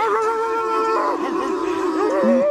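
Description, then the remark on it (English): Several players from the youngest NBA team ever to win a playoff series imitate dogs on television, letting out loud, overlapping howls and yelping barks that waver up and down in pitch for a couple of seconds, with no ordinary talking. “you can do whatever you want to do, and that includes barking on NBA TV”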